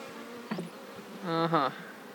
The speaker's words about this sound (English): So, it's kind of hard to believe I'm just sitting here. There's probably about... How many bees are in one of these boxes? Well, there's about 8,000. About 8,000.